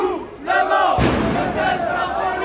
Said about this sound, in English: The crowd chanted, "Everybody hates the police."